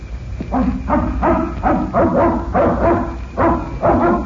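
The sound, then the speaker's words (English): Fred Harlan's dog, at the place where Harlan lives, barks repeatedly in a steady series of sharp, mid-pitched barks, about two per second, loud, with no one speaking. “That must be the dog you told us about.”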